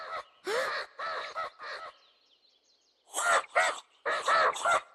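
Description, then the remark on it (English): A voice imitates a royal spoonbill's call with harsh, throaty honking bursts, four quick ones, a brief pause, then four more, fairly loud with no other talking. “A royal spoonbill. They like to know they aren't alone, so they call out.”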